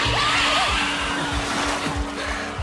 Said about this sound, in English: Do you know what that sound is, Highness? Those are the shrieking eels. If you don't believe me, just wait. They always grow louder when they're about to feed on human flesh.